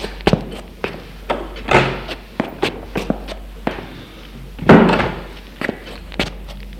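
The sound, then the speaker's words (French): Footsteps shuffle and knock across a room amid scattered bumps, with a couple of heavier door thuds, as a woman and a man get up and leave the room, without any talking. “Elle se lève. Lui aussi. Et ils sortent de la pièce.”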